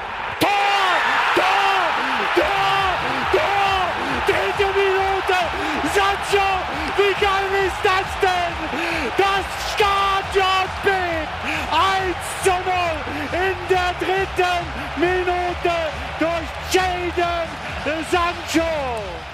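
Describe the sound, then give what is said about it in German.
A stadium crowd of 80,000 erupts after an early BVB goal in the third minute, following a move involving Sabitzer and Sancho: a loud, sustained roar of thousands of voices, with rising shouts and sharp claps or bangs scattered throughout the roar. “Das Stadion explodiert, die Leute drehen durch.”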